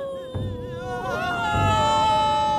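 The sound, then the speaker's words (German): Several professional mourning women weep and wail together, their overlapping voices rising and falling in long, wavering laments that grow steadily louder throughout. “Die Klageweiber jedenfalls kamen aus dem Weinen nicht mehr heraus.”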